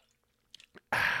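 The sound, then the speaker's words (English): Someone swigs from a water bottle: a few soft, wet mouth clicks, then a sudden loud, rushing gulp of liquid and air that cuts in abruptly and holds steady. “but I'm going to need to have a refreshment here or there, so bear with me if you hear me swigging on the old water bottle.”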